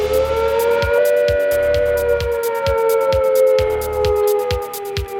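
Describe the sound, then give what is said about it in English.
A four-minute warning air raid siren wails loudly and steadily, its pitch sagging slowly, while a regular thumping pulse beats beneath it throughout. “When suddenly the 4-minute warning sounds.”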